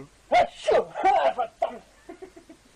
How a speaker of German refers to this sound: Der niest mir hier ins Ohr.